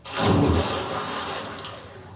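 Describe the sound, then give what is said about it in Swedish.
A loud splash as dogs jump into their small pool, water surging at once and then churning and sloshing steadily for a couple of seconds, with no voices. “Och samtidigt så sitter du också och spakar då ljuden, till exempel att när hundarna här hoppar i sin lilla pool så plaskar det.”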